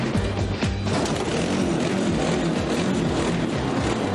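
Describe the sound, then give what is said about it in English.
The small engine of an amphibious bike revs loudly and continuously, its rough, buzzing roar wavering in pitch early on before settling into a steady, harsh drone. No one speaks. “Our northern rebels with a cause are giving their ridiculous-looking amphibike a right good revving.”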